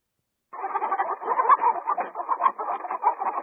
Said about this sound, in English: Those are chickens.